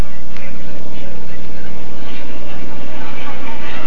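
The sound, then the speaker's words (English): A steady, loud droning of propeller engines from nine biplane fighter planes coming in at dawn toward Kong, each armed with two machine guns and a few bombs; a continuous low rumble with a rough buzzing texture. “The fighter planes were coming in, biplanes, each with two machine guns and a few bombs.”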